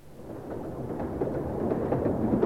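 A train approaching: a deep, steady rumble that swells gradually louder over a couple of seconds, with a faint rattling texture on top and no voices.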